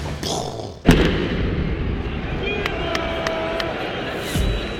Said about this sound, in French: Donc, c'est à ce moment-là que on entend une explosion.